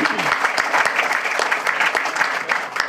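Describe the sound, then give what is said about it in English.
A crowd breaks into steady applause, dense overlapping claps forming a loud, continuous wash with a few sharper individual claps popping out, lasting the full few seconds. “That does deserve a round of applause.”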